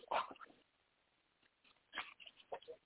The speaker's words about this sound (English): Yo, I gotta take this dog outside.